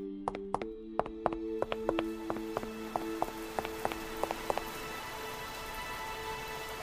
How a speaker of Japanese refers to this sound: デュレ、雨だよ。